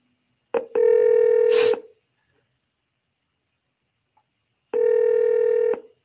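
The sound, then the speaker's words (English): A phone call's ringing tone sounds twice as a call is placed to a phone, each steady electronic ring lasting about a second, separated by a few seconds of silence. No one speaks. “Okay, so I'm making the call and I'm just going to apologize for the feedback.”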